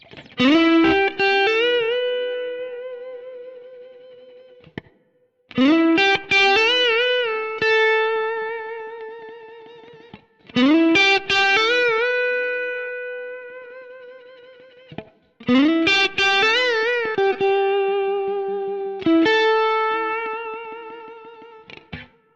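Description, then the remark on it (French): Electric guitar plays a song's lead part with a clean tone, slightly dirtied and crunchy for texture and sustain: a repeating phrase of ringing chords and single notes, in four sustained bursts of about five seconds each, with no talking. “Au niveau du son, vous l'avez entendu, on est sur un clean éventuellement un peu sali, un peu légèrement crunchy, histoire d'avoir un petit peu de texture et puis de sustain.”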